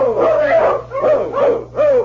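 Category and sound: animal, sled dog team barking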